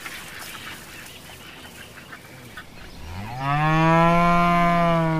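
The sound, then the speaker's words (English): A bull lets out a single long, loud bellow that rises and then holds steady, coming in after a few seconds of quieter, scratchy background noise. “The cow's angry too. That's not a cow. It's a bull.”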